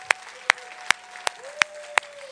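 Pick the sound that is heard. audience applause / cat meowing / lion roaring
audience applause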